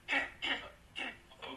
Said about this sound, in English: coughing in the background.